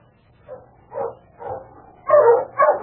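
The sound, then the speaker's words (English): A small dog barks and yaps repeatedly, a few spaced yips building into louder, rapid barking, with no voices present. “Shut up, you yapper, no good, huh?”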